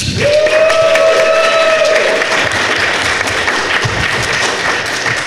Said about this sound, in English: We've got about 50 minutes of thrill-powered conversation with our guests, and I'd like you to give a round of applause to each one as I introduce them.